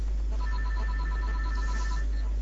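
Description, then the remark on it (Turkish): A telephone rings with a rapid, warbling electronic trill in steady pulses, clear against a faint low hum. “ben bir telefona bakayım inşallah.”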